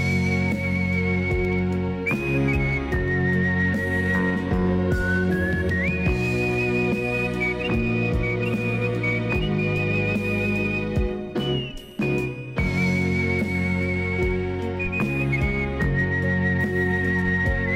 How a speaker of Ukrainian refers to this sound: одним з найвидатніших світових майстрів екзотичного навіть тоді, а нині практично забутого жанру – художній свист.